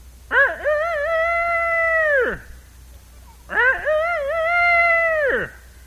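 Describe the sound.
A person imitates a rooster crowing, twice: two long, loud, drawn-out vocal calls, each wavering at the start, holding steady, then dropping off, with a short pause between them.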